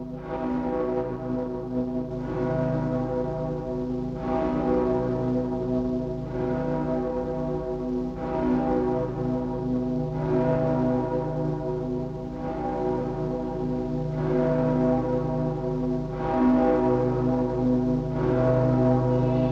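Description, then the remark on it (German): Deep church bells of Breslau ring steadily for the whole stretch, heavy strokes falling about every two seconds while their rich, humming overtones blend into one continuous sustained drone. “Glocken von Breslau mahnen an die Vergänglichkeit alles Irdischen und daran, dass wir Menschen eine bleibende Heimat nur im Ewigen haben.”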